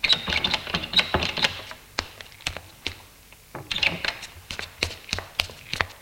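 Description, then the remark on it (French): Footsteps walk down a corridor, a steady run of sharp taps and knocks on a hard floor, with a brief rustle partway through and no talking. “Autre porte qui s'ouvre et des pas dans le couloir.”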